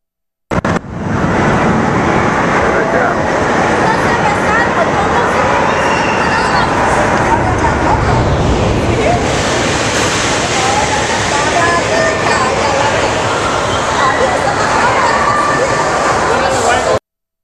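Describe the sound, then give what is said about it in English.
A water flume ride at the Adventure Dome splashing with a steady, loud rush of churning water, crowd voices murmuring underneath and some wind buffeting the microphone throughout. “One of the rides is a water chute kind of thing. And we have a video. Flume, water flume ride.”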